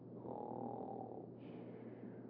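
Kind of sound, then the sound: human body sound, man snoring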